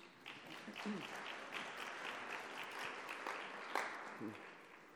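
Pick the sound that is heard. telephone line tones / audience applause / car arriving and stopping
audience applause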